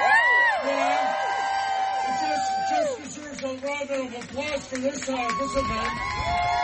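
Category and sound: crowd, crowd applause and cheering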